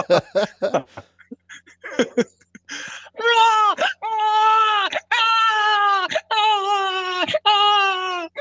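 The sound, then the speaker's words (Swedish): A person imitates a crying baby: after a few short breathy vocal bursts, a series of about five loud, drawn-out wailing cries follows, each one sustained and quavering. “Det låter precis som en gråtan baby.”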